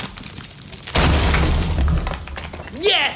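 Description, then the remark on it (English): A heavy thud as a wall is knocked through to make a doer-upper house open plan, followed by about a second of crumbling and rattling debris before the noise fades. “When your husband's got his heart set on making the doer-upper open plan, enjoy every thudding second of it.”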